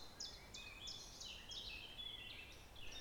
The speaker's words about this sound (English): And by coming out, there's a lovely bird, a chiff-chaff.